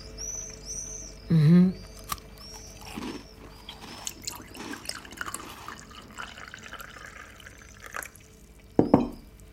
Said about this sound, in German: Komm, lass uns doch nochmal diese Küchenatmo machen. Könnt ihr mir mal einen Wasserkocher reinspielen und vielleicht Kühlschrank, was man hat, so hat in der Küche. Bisschen Stimmung, Sommerstimmung, Vögel vorm Fenster.